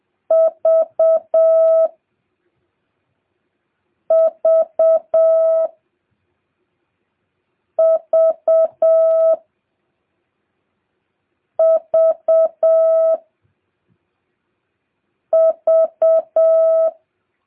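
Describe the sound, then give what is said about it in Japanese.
In a Morse code lesson, the letter V is keyed five times in a steady, mid-pitched tone: three short beeps followed by one long beep, each group separated by a brief silence. No voices are present. “次は、トトトツー V です。”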